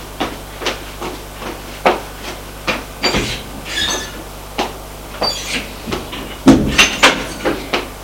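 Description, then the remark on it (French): A sliding balcony door rattles open, followed by a series of short knocks and squeaky rolling sounds as a woman pushes a wheeled chair carrying a body out of an office, with a low steady hum underneath. “Elle ouvre le balcon, prend la chaise, fait pousser la chaise, qui a des roues, et sort du bureau.”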